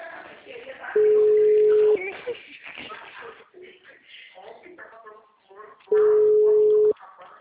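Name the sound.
telephone busy signal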